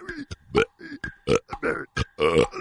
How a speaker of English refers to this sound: We haven't had a good burp talker on the air for a long time